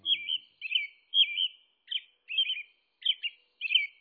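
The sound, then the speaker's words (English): An American robin sings its daytime song, a series of about seven rich, whistled phrases with short pauses between them, clear against a quiet background. “During the day, an American robin sings a lovely, familiar song of rich phrases.”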